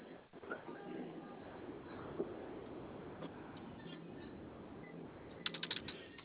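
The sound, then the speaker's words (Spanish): Someone taps in the code 4545 on a lit keypad: a few scattered clicks, then a quick cluster of short key presses near the end, faint and muffled over a steady hiss of background noise. “¿Tu teclado prende? Sí, el teclado sí prende. ¿Puedes ingresar 4545?”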